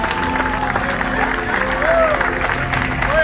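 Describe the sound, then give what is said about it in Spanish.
An audience at a religious service applauds loudly to welcome an evangelist, a dense, steady wash of clapping mixed with crowd voices and a few rising shouts, holding its volume throughout. “Con ese aplauso fuerte, Dios poderoso, vamos.”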